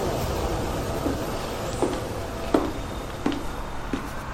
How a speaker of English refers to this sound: Kindly attention, train to Yazd is arriving on time at platform number 4.